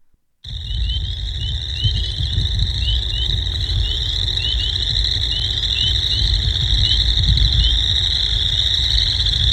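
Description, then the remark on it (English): A dense chorus of spring peepers and chorus frogs calls together without pause, high repeated peeps layered over a steady trilling din, with a low rumble of background noise underneath. “Peepers and chorus frogs.”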